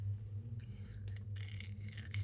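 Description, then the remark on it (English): Soft, dry scritching of a quill on parchment, written by an ancient figure at a small desk, comes in short strokes and a longer run of scratches, faint over a steady low hum. “You hear the scritch of a quill on parchment and the tap as it goes into an inkwell before you continue to hear the scritch of this paper.”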